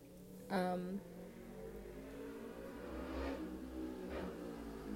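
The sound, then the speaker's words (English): A motorcycle engine revs sharply, its whine climbing for about a second, then settles into a steady low rumble with a couple of softer throttle surges as it carries on. “Okay, we get it. You're on a motorcycle. Relax.”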